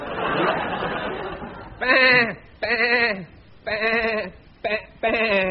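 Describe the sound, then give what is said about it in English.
A noisy rustle of chatter gives way to five loud, wavering sheep-like bleats in a steady rhythmic run, apparently a human voice imitating sheep bleating a tune as a twelve-bar blues. “A 12 bah blues.”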